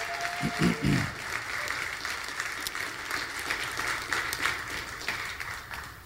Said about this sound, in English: Can I get a witness? Give the Lord a great hand clap of praise.